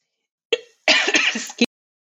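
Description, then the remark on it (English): A short, sharp cough followed by a longer, rough throat-clearing cough, fairly loud, with no talking over it. “Yes, I can, as I have a coughing fit.”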